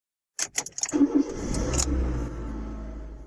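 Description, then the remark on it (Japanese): Keys jangle briefly, then a car engine turns over and settles into a steady low rumble as the car pulls away, its interior rattling and vibrating, fairly loud. “車は発進し、車内がガタゴトと振動します。”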